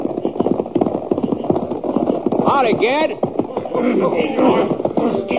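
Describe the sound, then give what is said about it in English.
About half a dozen horses come closer, their hooves clopping in a busy, overlapping patter that stays fairly loud throughout, with a brief whinny-like cry partway through. “We were just getting past those rocks when I heard what sounded like about a half a dozen horses coming toward me.”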